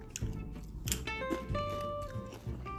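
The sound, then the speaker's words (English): Chewing with soft, irregular crunches and wet mouth sounds, repeated every half second or so, over a faint steady tonal hum in the background. “In between me talking and chewing like this, it's like ASMR.”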